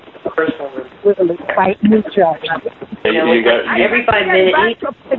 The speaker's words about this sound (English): Voices in the background.